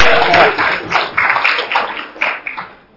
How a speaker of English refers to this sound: Take a seat. Good job. Round of applause. Round of applause.